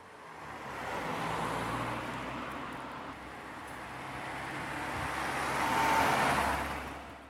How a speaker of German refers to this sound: Jetzt gehen wir von der Türe raus. Und nach diesem Haus müssen wir über eine Straße drüber. Und da ist viel Verkehr.